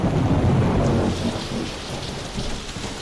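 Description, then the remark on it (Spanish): Heavy rain pours down steadily on a grey, rainy day at the Arroyo Fresno storm tank while a deep roll of thunder rumbles through the first second, then fades beneath the constant hiss of the downpour. No voices are heard. “Vamos a conocer en este día gris y lluvioso, ideal, para acercarnos al estanque de tormentas de Arroyo Fresno, que fíjate, es el más grande del mundo.”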